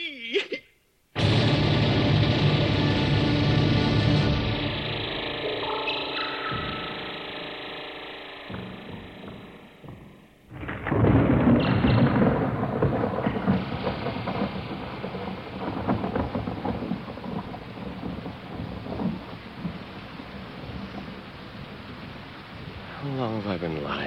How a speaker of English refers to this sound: Listening to the rain.